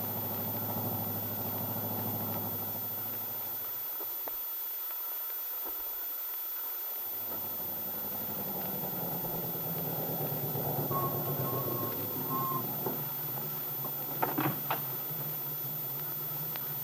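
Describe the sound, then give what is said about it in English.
The engine of a nice new car runs steadily as a low, rumbling drone that briefly drops out and shifts in pitch, with a few faint clicks near the end and no voices. “And thanks for bringing us home in your nice new car.”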